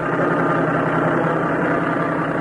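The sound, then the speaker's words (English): The engine of a new red truck, bought in 1928 by an Iowa farmer, runs steadily as his wife takes a driving lesson, a continuous low rumble with a droning hum and slight vibration, no voices, holding an even level throughout. “I guess it started back in, in 1928, when Bill Clark, an Iowa farmer, bought a new red truck. His wife, Josephine, not much of a hand at driving, was taking a lesson.”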